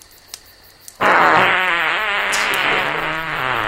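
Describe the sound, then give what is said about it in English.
After a second of near silence, a loud, drawn-out fart erupts, buzzing and sputtering with a wavering, rippling tone that carries on steadily to the end. “Have you ever had gas so bad that it affected the way you talked while you were farting?”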